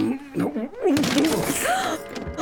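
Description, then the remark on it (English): A sharp crash as a precious clock smashes to pieces, followed by a second of scattered clattering debris, with a voice groaning and exclaiming over it. “Smashed to pieces.”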